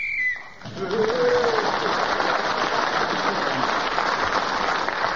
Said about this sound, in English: That whistle tells us that 60 seconds are up, and whoever is speaking that moment gains an extra point.